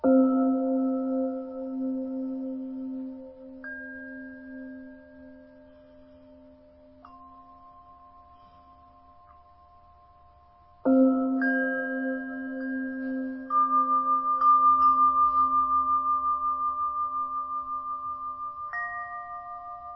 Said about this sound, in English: And we'll begin today just with a few moments of listening to these Tibetan sounds. Just focusing our attention on the bells and the tinkles and whatever other sounds they may deliver to us.